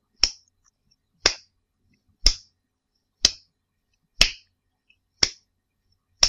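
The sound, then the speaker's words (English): A slow clap: seven sharp, crisp claps spaced evenly about a second apart, steady and deliberate, with silence between them and no voices. “I'm gonna give you the slow clap.”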